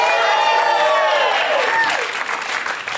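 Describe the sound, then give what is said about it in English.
Loud applause from an audience welcoming Boston Rob Mariano, with cheering and whoops rising over steady clapping, sustained for the full few seconds and fading slightly toward the end. “Here he is, everybody. Give it up for Boston Rob Mariano.”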